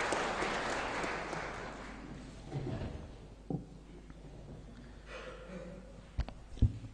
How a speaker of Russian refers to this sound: Валентина Ивановна Матвиенко, председатель Совета Федерации. Бурное продолжительное аплодисменты.